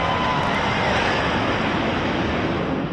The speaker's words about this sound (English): Here come the Red Arrows. Listen to this.